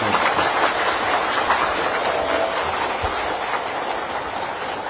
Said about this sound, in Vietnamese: Toàn thể đạo tràng cho một tràng pháo tay.